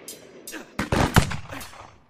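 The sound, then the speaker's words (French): A few sharp gunshots ring out in quick succession, the loudest in the middle, with fainter bangs before and after and a short echoing tail. “Deux ou trois coups de feu retentissent alors dans le silence de la nuit.”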